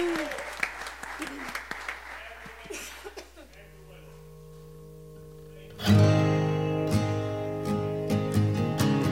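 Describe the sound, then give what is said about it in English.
An audience claps and cheers in praise in a dense burst of applause, which fades into soft sustained keyboard chords before a full band swells in loudly. “Clap of praise.”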